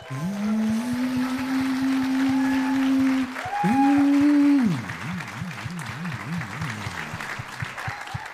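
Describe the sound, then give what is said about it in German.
Steady audience applause at an evening show, gauged by an applausometer, fills the whole clip while a voice-like tone holds a low pitch, jumps higher, then wobbles up and down in a warbling glide over the clapping. “deswegen kann das nicht von uns einfach bestimmt werden, wo am meisten Applaus zu hören war, sondern wir brauchen ein professionelles Applausometer.”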